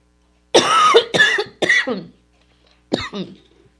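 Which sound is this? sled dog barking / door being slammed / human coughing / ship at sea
human coughing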